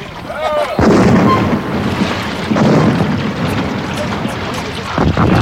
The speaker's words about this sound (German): Ich gebe Angriffssignal. Feuer! Feuer aus allen Kanonen!